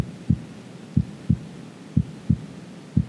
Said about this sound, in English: But imagine with me that you are John, that you lean in close to our Lord. You put your ear against his chest. And you hear his heartbeat.